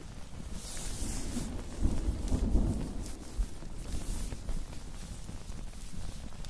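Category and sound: nature, rain starting to fall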